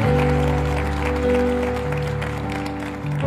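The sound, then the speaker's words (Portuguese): A church audience claps steadily for the full length during a service, welcoming first-time visitors, a dense, even patter of many hands, with sustained low keyboard chords held underneath. “Uma salva de palmas.”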